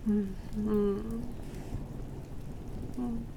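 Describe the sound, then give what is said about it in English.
Steady rain falls outside in the wind, pattering in a continuous, even hiss, moderately loud, while a soft voice murmurs briefly over it at the start and near the end. “With the fire and the wind and the rain outside.”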